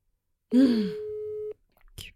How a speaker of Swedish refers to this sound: Men gud, det ringer ju.